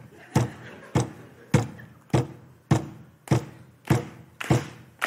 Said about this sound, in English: At our kitchen table, so you got to kind of play along with this to get the sense of it. We bang on the table, establish the beat.